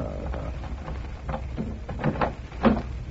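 A door is unlatched and opened for the landlady after she asks for it to be opened: a few soft rattling clicks and scrapes, then a louder clunk near the end, with no voices during the sounds.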